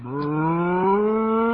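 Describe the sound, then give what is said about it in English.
A cow named Bossy moos once in a barn in a long, loud, steady low call that rises slightly in pitch and holds throughout, with no talking. “I've been milking this cow for 3 months, and I think I can manage.”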